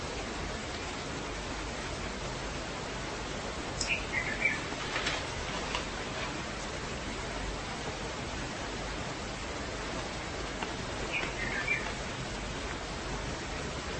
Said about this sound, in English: Birds singing in our window.